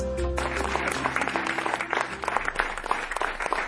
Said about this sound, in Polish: Takimi oklaskami zakończyła się wczoraj premiera Pana Tadeusza w Gdyńskim Centrum Kultury.